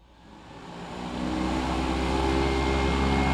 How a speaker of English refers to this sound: The sky outside of the Quincy Regional Airport is filled with the sounds of airplanes taking off.